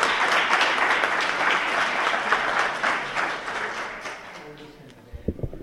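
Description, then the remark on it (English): A crowd applauds all the candidates at a School Board Candidates Forum for Bethel School District and Eugene School District 4J, with dense, steady clapping that holds for several seconds, then thins and fades out as a voice begins speaking at the end. “Now I'll return control of the mic to our president, but first, please join me in applauding all the candidates once more for their service.”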